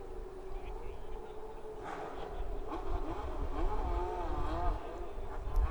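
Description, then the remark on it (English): A high-revving F1 race car engine whines past in the dark, smoke coming out the back of the car, its pitch rising and sweeping down as it goes by, over a steady low rumble of background noise. “I wouldn't want to be driving an F1 car in the dark, I've got to say.”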